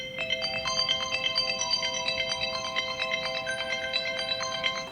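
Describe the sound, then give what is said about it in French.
A phone rings with a bright, repeating electronic melody of high tones that plays steadily throughout, with no voices. “Vous pouvez m'appeler ?”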